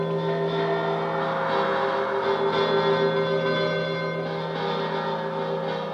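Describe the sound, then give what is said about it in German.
Bells high up overhead ring continuously, their overlapping tones blending into a dense, sustained metallic wash that stays fairly loud and steady throughout, with no voices. “Was ist denn mit den Glocken? Da oben, was ist denn da los?”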